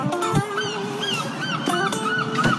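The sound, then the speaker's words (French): Seagulls calling loudly and steadily, several harsh, honking cries overlapping and repeating in quick succession with no voices. “Là, les gars, de la mouette, là.”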